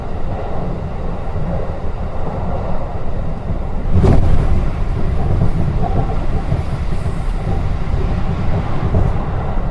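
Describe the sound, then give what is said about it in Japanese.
A train rolls along with a steady, heavy low rumble, growing slightly louder after a sharp metallic clank midway as it crosses a steel railway bridge, the sound spreading out with a broad, reverberant ring. “ちょっとしたこう鉄製の橋梁を渡る時の音とか、少し響きが広がりますよね、反響してね。”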